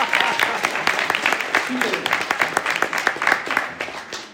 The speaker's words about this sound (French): On a quelques règles dans la maison. So in our church, dans notre église, if one claps, we all clap. Si une personne commence à applaudir, tout le monde doit applaudir.